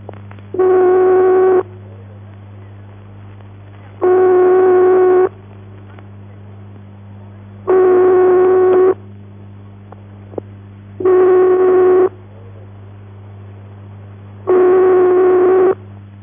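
A continental telephone ringing tone, heard when dialling a call to the continent: five long, steady buzzy beeps, each about a second, separated by regular pauses of a couple of seconds, over a faint constant line hum.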